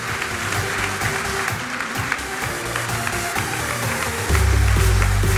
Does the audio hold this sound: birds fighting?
no